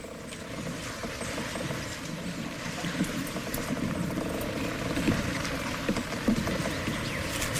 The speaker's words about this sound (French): Un bateau en bois, par exemple, il craque, il bouge, il est vivant, tu le sens bouger.